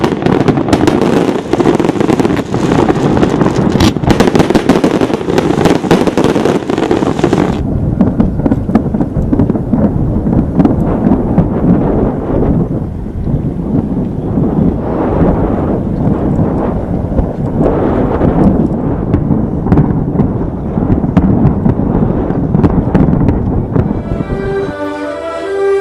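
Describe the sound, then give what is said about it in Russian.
A large fireworks display over Dubai, United Arab Emirates, an attempted record for the biggest display with 400,000 shots in total, bursts continuously, dense overlapping booms and crackles rolling together loudly for the whole stretch with no pause, ending in a brief lighter shimmer. “Поистине зрелищный фейерверк озарил небо в Дубае, крупнейшем городе Объединенных Арабских Эмиратов.”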